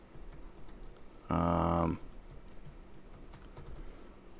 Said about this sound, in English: Oh, that's why you're just typing?